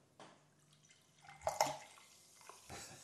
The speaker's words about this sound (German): das Eingießen von kohlensäurehaltigen Getränken